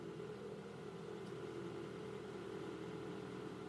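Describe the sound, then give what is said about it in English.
A car engine idles steadily with a constant low hum and a faint tonal drone, holding at an even level throughout with no revving or other sounds; the car stands with its door left open in the middle of nowhere. “And look, this bitch just left her door open. Car in the middle of nowhere.”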